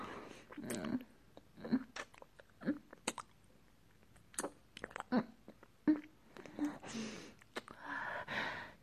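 Wet kissing sounds with one tongue licking another come in a run of irregular smacks and slurps, with soft breathy murmurs between them and no clear words.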